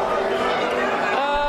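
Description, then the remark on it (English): Steady hubbub of a crowd gathered on a Sunday morning before a church service, many overlapping voices chatting at once with no single speaker standing out, a continuous moderate murmur throughout. “Wait, good crowd this morning.”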